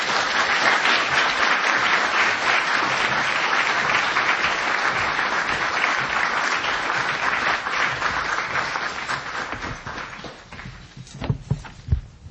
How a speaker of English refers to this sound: And a round of applause for them.